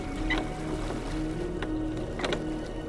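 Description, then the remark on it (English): Oars creak and splash in a steady rhythm as a lifeboat carrying 20 women and children, rowed by two ship's crew members, moves across open water away from a sinking ship, with a constant low wash of water and wind underneath. “The lifeboat is already afloat with 20 women and children, two ship's crew members on the oars, and you.”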